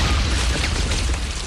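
A dense, rumbling wall of booms and bursts fills the moment, loud and continuous, a rapid series of detonations and gunfire drawing closer in the middle of the night, heard from a prison cell, with bazooka fire, and no voices.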